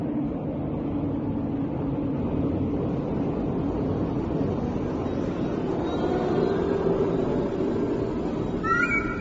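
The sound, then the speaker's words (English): A steady, dense low engine hum drones inside an airplane after takeoff, heard in the nose of the plane, constant and fairly loud throughout, with a few faint higher whining tones rising briefly near the end. “I can hear the hum here in the nose, and it's the best place to be.”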